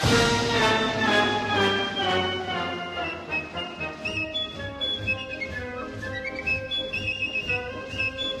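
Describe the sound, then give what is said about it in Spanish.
A dramatic TV soap-opera music cue: loud, sustained orchestral tones hold and swell, then shift to higher, pulsing notes in the second half. No one speaks over it. “Evidentemente, cuando estabas en la cocina y escuchabas esta musiquita, ibas corriendo hacia el living a ver qué había pasado.”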